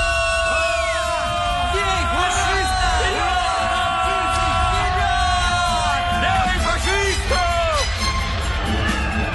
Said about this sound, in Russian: Крики «Ура! Бей фашистов! Балтийцы вперед!» слились с трескучим грохотом разрывов, с беспорядочным щелканьем выстрелов.